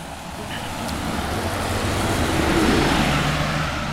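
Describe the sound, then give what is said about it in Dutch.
A bus rumbles toward the listener, its engine and road noise swelling to a loud peak near the end as it passes by, with a steady low drone throughout. “Daar komt de bus.”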